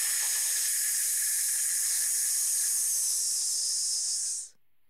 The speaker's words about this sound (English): And as you're pushing the air out, you're going to make a hissing sound. So try that one more time. Take a deep breath in, allowing your abdominal muscles to expand, and then pull them in as you push the air out, making the hissing sound.